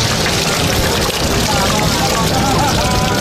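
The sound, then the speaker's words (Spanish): Heavy rain drums steadily on plastic sheeting stretched over a protest camp in Madrid's Puerta del Sol, a loud, dense, continuous hiss and patter with no breaks, filling the whole stretch without any voice over it. “estoy aquí en la Puerta del Sol debajo de unos plásticos, está lloviendo a mares, unos plásticos que ocupan de fuente a fuente de la Puerta del Sol, está todo lleno de gente.”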